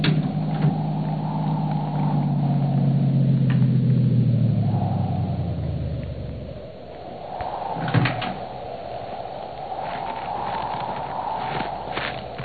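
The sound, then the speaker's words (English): A car engine rumbles for several seconds as the car comes up a driveway from the foot of a hill, its low drone easing off as it stops, followed by a brief clunk like a car door amid a steady background hum. “That car down there at the foot of the hill just turned in your driveway.”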